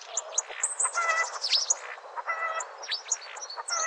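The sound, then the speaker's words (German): A starling sings a dense, continuous jumble of whistles, sharp downward-sweeping calls, clicks and chattering notes, mimicking other birds' calls, with no talking; a rare recording made by ornithologist Professor Hans-Heiner Bergmann. “Stare können zum Beispiel die Rufe von Bussarden oder Spechten nachahmen oder auch mal ein Huhn.”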